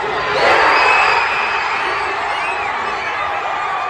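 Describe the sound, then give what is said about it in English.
A large crowd outside Rogers Place in Edmonton cheers and shouts loudly and continuously after Leon Draisaitl's overtime goal wins game 4 for the Oilers, a dense roar of many voices with scattered whoops rising above it, swelling slightly early on before holding steady. “Here's the crowd outside Rogers Place in Edmonton reacting.”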